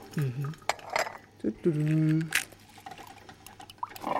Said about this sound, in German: Rührst du das Ei schon wieder ins Glas? Was soll der Unfug?